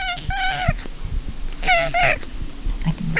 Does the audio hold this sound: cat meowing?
yes